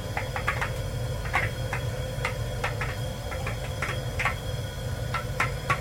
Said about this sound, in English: Yeah, I can start to see the first few corn kernels are just popping in that oil. I'm going to see if you can hear it now.